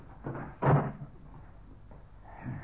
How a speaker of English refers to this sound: Now, I'll close this door.